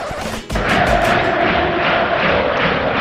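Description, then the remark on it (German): A large crowd of FC Sevilla football fans roars in a stadium in Seville during a match against Real Madrid, a loud, sustained wash of cheering that surges after a brief dip and stays dense and steady, with a faint tonal hum underneath. “Okay, der FC Sevilla verliert das Spiel, aber hier jubeln die Fans.”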